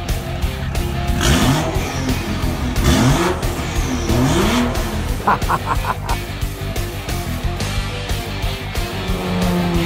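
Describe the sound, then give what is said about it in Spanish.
A rattly old car engine revs loudly, its pitch sweeping upward in several repeated bursts, with a quick series of short honking blasts partway through and a steady rumbling idle beneath. “Carcacha.”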